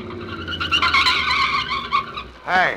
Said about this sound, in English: November 1939. It is late at night. Two cars are speeding along a road. Suddenly, the second swerves ahead and forces the first car into the curb.